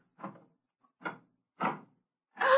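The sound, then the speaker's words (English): The door of Mr. Hamilton's office on Broad Avenue is opened with four separate knocking, rattling bursts spaced about half a second apart, moderately loud, growing slightly louder toward the end, with no voices. “Open the door.”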